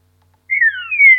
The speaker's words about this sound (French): D'accord ? Je pense que vous entendez la nuance. Hein. Donc en fait, tous ces oiseaux se diffèrent par leur forme de chant.